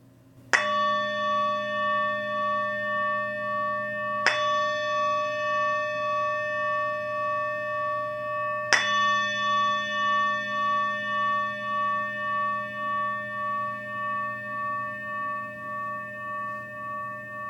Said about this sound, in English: At the sound of the bell, bringing your attention to your breath for the length of the sound of the bell.